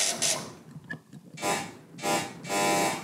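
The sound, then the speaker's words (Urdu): A harsh electronic quiz-show buzzer sounds three times in quick succession as both teams' buzzers are tested for a buzzer round, each blast loud, the last one held a little longer, with quiet in between and no talking. “جی چلیں، دونوں ٹیموں کی بزر بجے ہے، اب اپنا راؤنڈ شروع کرتے ہیں.”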